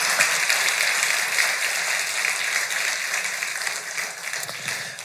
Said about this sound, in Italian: Ok, grazie, un applauso.